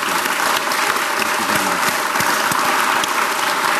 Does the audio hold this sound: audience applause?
yes